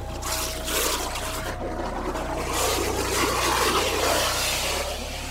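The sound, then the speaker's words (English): Water churns and splashes, swelling louder midway as a diver splashes up to the surface in a boil of water and air, while a steady low engine hum drones underneath. No one speaks. “Sean splashes up to the surface in a boil of water and air”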